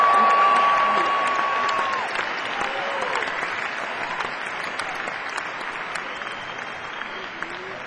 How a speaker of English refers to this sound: And we're so proud to be out here on this show with …. Let's give … a big round of applause.